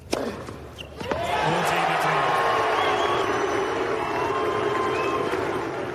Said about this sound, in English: It kind of sounds like the crowd at the Australian Open is booing, but it's directed at Australian tennis star Nick Kyrgios, and he's lapping it up.